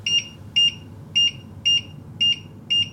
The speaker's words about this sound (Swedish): Så tack och lov för att den i alla fall blippar spisen.